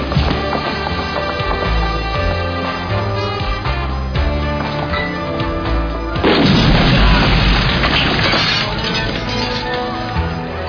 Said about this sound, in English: Evacuate the main building. Emergency. All personnel, evacuate. Major gas explosion. Keep clear of the main building.